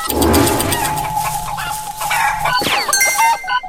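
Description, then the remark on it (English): Video game chicken clucking amid a busy layer of game sound effects, followed by a sharp descending zap and a burst of bright chiming tones at the end, as the player kills the chicken. No one speaks. “Yes, I just killed the chicken.”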